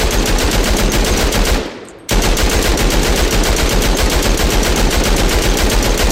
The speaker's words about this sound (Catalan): Els soldats alemanys, amb el cor encongit, al final, obren foc contra ell.